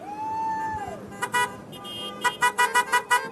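A logging truck arriving honks its horn in short bursts, first a pair and then a quick run of five or six loud blasts, over a steady background of road noise.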